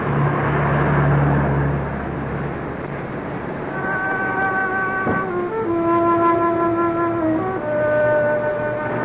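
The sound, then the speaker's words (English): City buses pass along a busy big-city street lit by neon, with honky-tonks: a steady low engine rumble and road noise, then rising whining engine tones that hold and shift as a bus pulls through, fairly loud. “Romantic illumination by neon, serenaded by buses and honky-tonks.”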